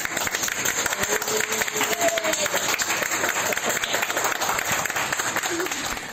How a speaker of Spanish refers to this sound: acto seguido los compañeros rompían a aplaudir. Habían salvado otra vida.